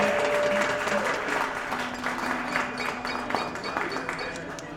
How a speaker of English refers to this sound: Let's have a round of applause for our host, event coordinator.